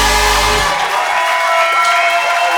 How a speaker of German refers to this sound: Okay, einen riesengroßen Applaus für meine Boys, meine Mentoren.